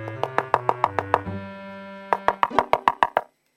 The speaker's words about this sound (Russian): Видит. Стоит избушка. Постучала Машенька в дверь.